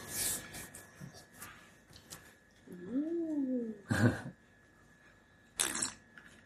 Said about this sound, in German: Schlürf, Schmatz.